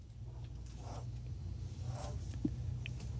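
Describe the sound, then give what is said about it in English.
A pen scratches across paper in a few short, soft strokes separated by brief pauses, drawing a triangle, quiet against a low steady background hum. “Draw a triangle.”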